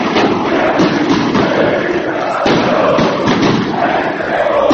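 A roaring crowd of football fans at the Red Star (Crvena zvezda) stadium in a match with Partizan chants and shouts continuously, with a few sharp firecracker bangs and thuds cutting through the din at irregular moments as fans in the north stand fire firecrackers at Partizan goalkeeper Vladimir Stojković.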